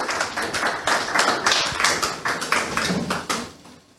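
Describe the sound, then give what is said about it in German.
An audience gives an extra round of applause for the team, a dense wash of many hands clapping at a fairly loud, even level that thins and fades slightly toward the end. “Und jetzt nochmal ein extra Applaus für die Truppe, denn hier geht's los.”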